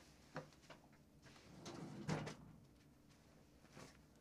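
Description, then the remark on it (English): A drawer that had been left pulled out is pushed shut, with a series of soft wooden knocks and rattles and one firmer thump partway through, then a last light bump; no one speaks. “I also just realized that here in the shot, I have a drawer, like, out.”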